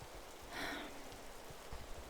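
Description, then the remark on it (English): Steady, soft rain patters and hisses late at night, a quiet continuous wash of drops with a brief louder rush early on; no one speaks. “So, what's an idiot like you doing out so late in the rain?”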